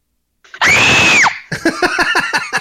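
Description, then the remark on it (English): A person lets out a loud, sustained scream lasting under a second, recreating a man's scream, followed by a quick burst of breathy, choppy vocal sounds. “I can recreate his scream.”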